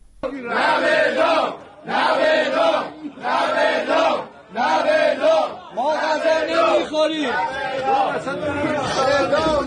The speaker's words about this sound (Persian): صدای زندانیان زندان قزلحصار که از روز دوشنبه 21 مهر دست به تحصن و اعتصاب غذا زدند.